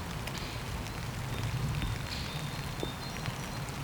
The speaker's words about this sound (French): Une pluie fine qui s'abat sur la forêt des arbres dénudés au bord d'un ruisseau.